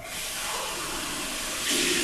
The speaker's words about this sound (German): Ich trinke nochmal einen Schluck Wasser.